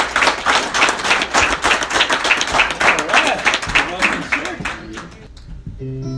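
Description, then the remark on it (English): A crowd gives the Lord a round of applause after a Christmas-season prayer, clapping loudly and steadily for about five seconds, many hands together, then the applause fades out and a few voices and a sustained musical tone take over. “Let's give the Lord a round of applause today.”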